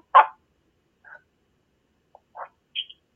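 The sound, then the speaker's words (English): A cuckoo clock sounds off during a meeting in a few short, irregular chirping calls, one louder burst followed by softer croaky notes and a higher tonal chirp, with no talking. “I got a cuckoo clock.”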